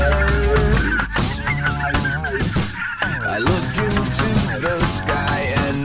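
Turkeys gobble in loud, warbling bursts over a dense, continuous musical backing, the rattling calls overlapping one another throughout.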